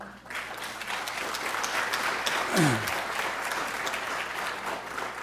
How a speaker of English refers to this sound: So I want to introduce and have them stand up, and let's give them a round of applause, each one of them, as they stand up.